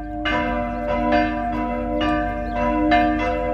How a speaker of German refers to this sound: Hören wir es uns nochmal an. Wir suchen die Glocken. Ah, die Glocken haben wir, aber wir suchen den Ort zu den Glocken dazu.